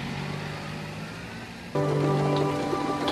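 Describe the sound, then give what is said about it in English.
Steady rain drums on a motorhome roof in a dense, continuous patter, growing noticeably louder partway through, with a low steady hum underneath and no talking. “That's the roof with the rain.”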